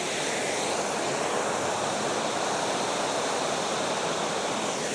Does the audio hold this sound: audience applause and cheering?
no